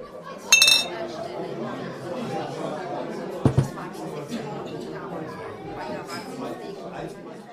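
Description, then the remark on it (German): Glasses clink sharply together in a bright ringing toast of "Prost", with a second quicker clink a few seconds later, all over a steady murmur of people chatting. “Ich darf sagen, da drauf trinken wir jetzt erst einmal einen Schluck, oder? Das darf ich auch sagen. Also, Prost! Prost.”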